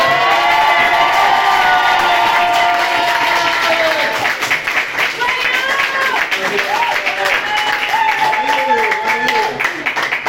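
A crowd applauds and cheers loudly and steadily for about ten seconds, with dense clapping and high excited shouts and whoops rising above it.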